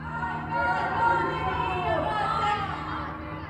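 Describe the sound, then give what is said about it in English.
A crowd of women's voices chants together from balconies and open windows at night in Iran's capital city, in a steady, overlapping swell, the sustained unison tones holding at an even loudness for several seconds without any single clear speaker. “These chants spread between buildings and through Iran's capital city over the heads of the security forces below. Nearly all are women's voices.”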